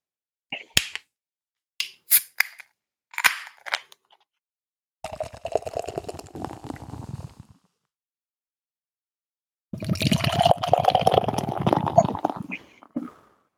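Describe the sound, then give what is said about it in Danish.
A few sharp metallic clicks and a hiss as a beer can is opened, then beer is poured rather aggressively into a glass in two foamy, gurgling bursts, with no talking. “Det kunne jeg dufte lige så snart dåsen den blev åbnet.”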